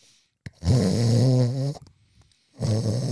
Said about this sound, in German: Einige der anderen Fahrgäste waren schon eingeschlafen. Man hörte ein sonores Schnarchen von den hinteren Bänken.